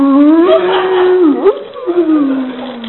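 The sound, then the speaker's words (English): A person imitates five or six street dogs in India howling together: a loud, sustained wavering howl that dips and swoops midway, then rises again and trails off over about three seconds. “He asked him to move to the impurity pile someplace else because the dogs were all sitting there singing outside of the door like that.”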